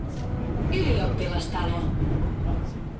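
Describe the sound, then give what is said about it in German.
A line 9 tram in Helsinki rumbles steadily closer through a busy street as it approaches the market square, its low mechanical drone joined by brief high metallic squeals, with faint voices in the background. “In Helsinki nähert sich die Linie 9 dem Marktplatz.”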